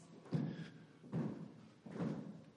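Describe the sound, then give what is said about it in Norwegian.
A concert audience stomps their feet together in a steady beat to start a song: three heavy, rumbling thuds spaced evenly apart, each one a little ragged as many feet land at once. “Da må jeg få litt tramp.”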